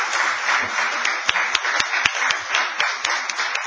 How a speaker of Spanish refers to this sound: Les pido por favor un aplauso a los panelistas y a los moderadores.